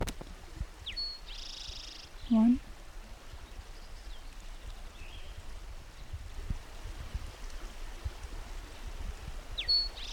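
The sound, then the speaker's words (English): Short, high bird song phrases from a bird singing about 20 feet down a road at 5:50 a.m. come through faintly over a constant rushing, stream-like hiss, with a brief spoken word early on and another high chirp near the end. “While I was trying playback, a bird started singing about 20 feet down the road, but I'm not sure if this is the same bird.”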